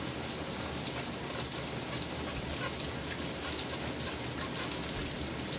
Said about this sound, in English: I'm gonna turn on this tub. tub real quick. Put some hot water.